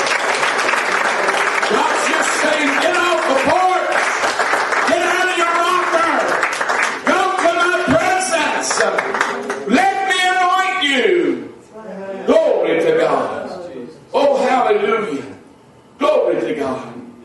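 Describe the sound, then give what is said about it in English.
An audience at a church service claps its hands to worship God in a dense, steady wash of applause while voices call out and sing over it; the clapping thins out partway through, leaving bursts of raised voices. “Clap your hands to the Lord and worship God.”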